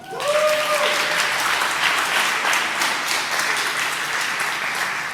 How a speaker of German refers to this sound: Okay, danke an Vater, Applaus.